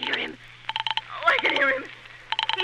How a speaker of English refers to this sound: And so by the end of the story, when she's in an absolute state of terror, you can hear that in the way the phone is being dialed.